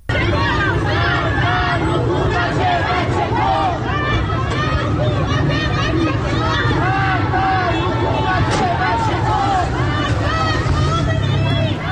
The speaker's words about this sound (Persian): در ویدیویی از تجمع والدین در مقابل مدرسه یارجانی در منطقه نارمک تهران، صدای شعارهای مرگ بر حکومت بچه کش و مرگ بر خامنه ای شنیده می شود.